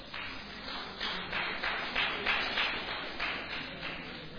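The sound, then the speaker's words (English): A crowd applauds steadily for several seconds, a dense wash of many hands clapping at once with slight swells in loudness and no voices over it. “Are you clapping for him?”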